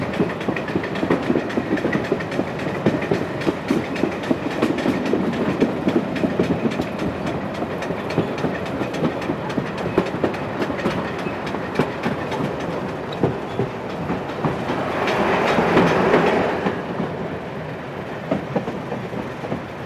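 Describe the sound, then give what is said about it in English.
A train rumbles steadily along the rails with a rapid clatter, its engine note swelling and shifting as the brakes go on and the speed changes near the end, as it approaches a viaduct. No one speaks. “Hear the change in the speed of the engine.”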